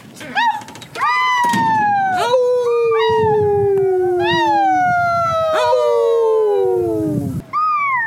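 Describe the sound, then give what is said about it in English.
Several people howl like wolves outdoors in Colorado at 8 p.m., with neighbors howling back; long wavering cries that rise and slowly fall, overlapping one another, continuing for several seconds without talking. “or from another state that doesn't do this, here in Colorado at 8 p.m., we go outside and we howl and our neighbors howl back.”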